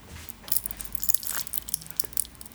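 Hot tea poured over a few lumps of rock sugar (Kluntjes), setting off a flurry of sharp, irregular crackles and pops above a soft, steady liquid hiss, with no voices.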